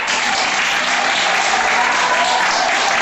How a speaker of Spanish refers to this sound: de estar a las 8 en el balcón y oír aplausos. Aplausos también en las unidades de cuidados intensivos.